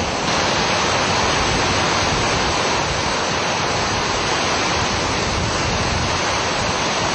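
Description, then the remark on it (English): Storm surge waves pour in as a loud, unbroken roar of churning water, a dense hiss and rumble that holds steady for the whole stretch with no voices. “storm surge coming in now.”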